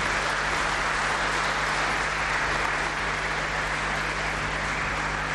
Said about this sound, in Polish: Wielkie brawa.